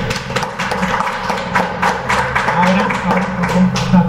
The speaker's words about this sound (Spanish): Vamos a dar un aplauso.